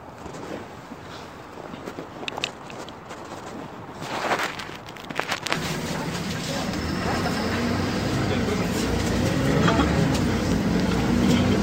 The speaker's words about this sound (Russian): Ух, как тепло в автобусе, наконец. Как будто в раю оказался. Как будто лето настало.